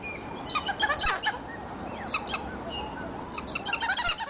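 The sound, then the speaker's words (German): A pair of titi monkeys, the parents of a family group, sings a territorial duet down from high in a tree: bright, high chirping calls in three quick bursts, overlapping squeaky notes rising and falling over a soft background hiss, with no talking. “Und zwar indem die Eltern vom Baum oben runter im Duett singen.”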